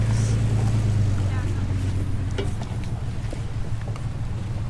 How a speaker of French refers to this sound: Oh, les camions.